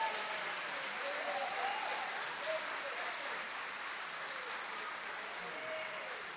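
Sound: audience applauding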